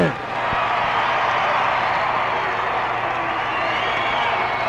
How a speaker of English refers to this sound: And a roar of the crowd for Muhammad Ali.